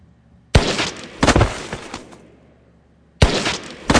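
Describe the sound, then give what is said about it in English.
Two sharp, loud gunshot sound effects ring out in an action movie effects demo, with a lingering noisy tail, followed by a quiet gap and then more abrupt shots near the end, no voices present. “create the look of someone blowing their head off with the help of our popular new product, Action Movie Essentials”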